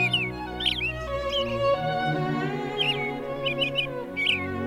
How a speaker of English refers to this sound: I'm almost 100% sure that it's a robin. Pretty bird, pretty bird, pretty bird.